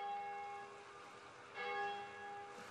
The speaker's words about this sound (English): The bells rang out from the whitewashed towers of Santiago de la Vega on Jamaica's north shore. Their deep bass tone filled the narrow cobbled streets, the cool stucco homes, glanced off the red-tiled roofs of the government buildings